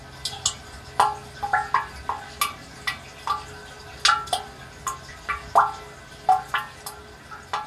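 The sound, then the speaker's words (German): Water drips steadily inside a spring water catchment fed by plastic pipes, each drop landing with a bright, resonant plink over a low hum, falling irregularly about twice a second with no voices present. “Und da konnte man hören, wie die Wasserfassung, wie es klingt in der Wasserfassung und konnte das auch noch ein bisschen verstellen.”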